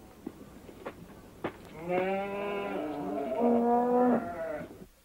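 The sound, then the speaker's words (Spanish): A few soft knocks, then a cow being milked by a man lets out one long, drawn-out moo, loud, lasting about three seconds before trailing off. “Ese hombre solo ordeña una vaca.”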